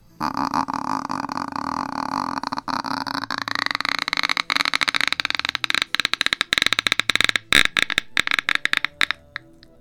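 A door creaks open slowly for about ten seconds: a strained, groaning whine that rises in pitch, then breaks into rapid, stuttering crackles toward the end. No voices.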